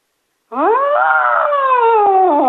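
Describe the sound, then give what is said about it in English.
A lone voice lets out a loud, sustained wail imitating a siren, swooping up in pitch and then sliding slowly downward for about two seconds. “Let me hear your best siren call.”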